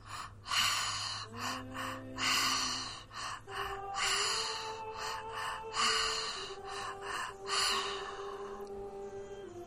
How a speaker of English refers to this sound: I'm going to start with the breath through the mouth. All through the mouth, two breaths in, one breath out, breathing into that color blue.